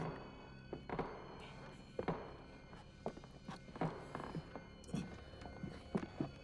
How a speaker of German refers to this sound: Vorsichtig und mit leisen Schleichschritten betraten die 3 Fragezeichen unbemerkt Ohms Villa und liefen die Treppe in den 1. Stock hinauf.